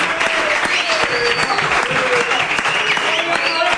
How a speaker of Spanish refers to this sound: Gracias a Luis Ayón, al Mr. Blanquinegro, un aplauso por favor.